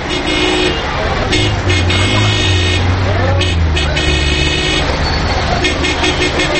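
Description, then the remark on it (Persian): A taxi pulls over in loud, busy street traffic while horns honk repeatedly, engines rumbling steadily underneath and voices faintly audible in the background. “تکسی این طرف گوشه کن، این طرف.”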